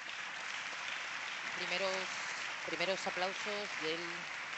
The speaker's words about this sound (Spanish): Primeros aplausos del presidente de la Comunidad de Madrid en el momento en el que habla de la soberanía de la nación.